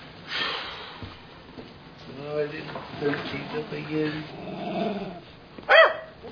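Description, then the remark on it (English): A dog growls in a low, rumbling run for a few seconds, then lets out one sharp, loud bark, with soft background noise throughout. “If you don't teach that dog some manners soon, somebody else is going to have to.”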